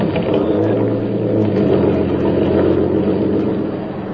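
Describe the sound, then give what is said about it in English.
A steady, loud motor drone fills the scene, the low rumble of boat engines running continuously with a slight hum layered on top, unbroken for the whole stretch, as boats lowered over a ship's side carry CBs toward the beach. “CBs clamber down over the side, down into the boats, and head for the beach.”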